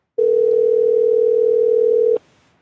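A single ring on a phone line: a steady, loud electronic tone holds for about two seconds, then cuts off abruptly into near silence. No voices are heard.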